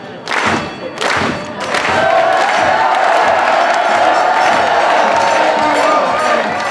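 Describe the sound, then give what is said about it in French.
A large crowd in the multipurpose hall of Le Noirmont cheers and shouts as an Olympic medallist enters, with a few early bursts of whoops before the roar settles into a sustained, loud wall of hurrahs and applause. “Audrey Gonia a fait son entrée seule, médaille olympique autour du cou, sous les hurrahs de la foule”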